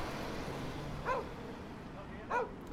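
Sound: shepherd dog barking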